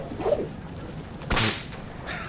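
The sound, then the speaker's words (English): A whip swishes through the air and then cracks once, loud and sharp, followed by a fainter lashing hiss near the end. No one speaks. “Oh my gosh. That was a lot of whip.”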